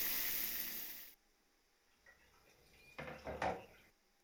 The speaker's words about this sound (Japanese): シャンプーの前にシャワーで予洗いするね。整髪料とか皮膚とかこうやって先に落とすの。